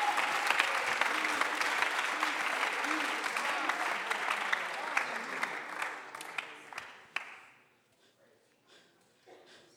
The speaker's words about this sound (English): Somebody clap your hands. Alguien aplaude sus manos.